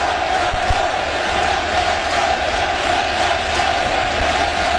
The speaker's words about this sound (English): And like a scene from Bad News Bears in breaking training, the crowd yelling, "Let them play."